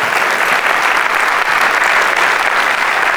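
Loud, sustained applause from a large group, given to God during a sermon, fills the whole clip, a dense steady wash of clapping with no pauses and no voices rising above it.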